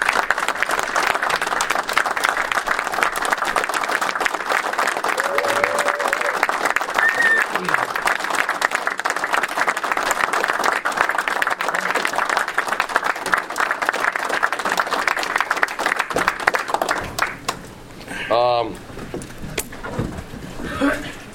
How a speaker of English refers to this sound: But I need a round of applause